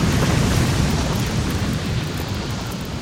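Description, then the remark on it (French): A massive explosion as the gunpowder reserves of the burning flagship of the French fleet blow up around 10 pm, sinking the ship, rolls on as a loud, continuous deep roar and rumble that barely fades over three seconds, with no voices. “Et les réserves de poudre du navire amiral de la flotte française en flammes explosent, coulant le navire.”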